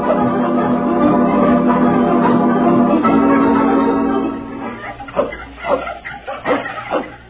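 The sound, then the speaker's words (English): A dog lets out a long, steady whining whimper for several seconds, then breaks into a short run of quick, uneven barks and yelps, clear. “Only get rid of that dog and be back at Commons in time for dinner.”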